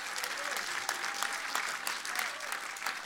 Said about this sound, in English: Okay, well, come on, let's give the Lord a clap.